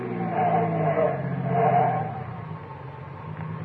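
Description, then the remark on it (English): A car's tires screech in two loud squeals over a rumbling engine as it skids to a stop, then the engine settles into a quieter idle. No one speaks. “Okay, now stop the car.”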